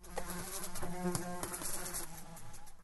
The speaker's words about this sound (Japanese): なんだこの音は。虫の羽音。一体どこから入って。そんな、まさか。 レースのカーテンと窓ガラスの間に入り込んで不機嫌な羽音を立てている虫がいた。体長は 2,3 センチくらいか。黄色と黒の警戒色は紛れもないスズメバチだ。